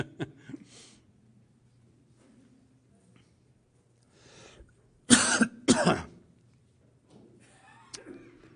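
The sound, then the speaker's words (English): A burst of two or three harsh, loud coughs, preceded and followed by quieter throat clearing and breathing, with no speech. “Excuse me. Does anyone have a cough drop?”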